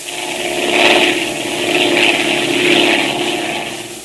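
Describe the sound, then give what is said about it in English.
A steady propeller-plane engine drones on its own in flight. The plane's undercarriage has been tampered with, so its landing wheels cannot be lowered. A continuous buzzing roar swells and fades in slow waves, moderately loud, with no voices. “At just that moment, the pilot discovered that the undercarriage of the plane had been tampered with, that it was impossible to lower the landing wheels.”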